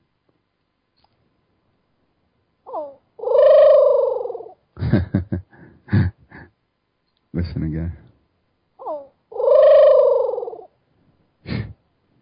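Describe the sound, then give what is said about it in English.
A kingbird's screech slowed down, played twice as a drawn-out, lowered wail with a rising then falling pitch. A man speaks briefly between the two playbacks. “Now listen to it in slow motion.”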